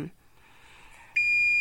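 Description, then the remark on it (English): An oven timer for baking cookies lets out a loud, steady electronic beep that starts suddenly and holds on at one high pitch, after a moment of quiet room noise. “Yep, they're actually that looks like the oven timer is about to go off.”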